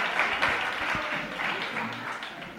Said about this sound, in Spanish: Bueno, aplausos, algún abucheo, pero muy pequeñito. Vamos a dar un aplauso a los dos, hombre, que se han prestado voluntarios a este mini debate. Muchas gracias.